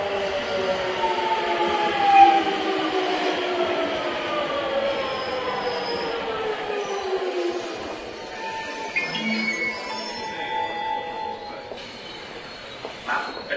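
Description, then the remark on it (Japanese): The Tokai No. 3 limited express train for Shizuoka departs from platform 1 at Kawasaki station, Japan, moving along the platform with a steady rumble of wheels, a sliding electric motor whine, soft hiss and brief high squeals, with no voices. “1番線特急東海3号静岡駅の発車です。ドアが閉まります。”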